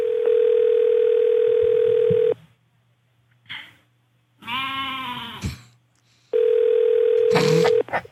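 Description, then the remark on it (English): A telephone line rings in two long, steady buzzing bursts with a pause between them, on a call to the Beverly Hills Hotel lounge to make a reservation, and a goat's wavering bleat sounds during the gap. “This is me calling the Beverly Hills Hotel to make a reservation for me and my party of goats.”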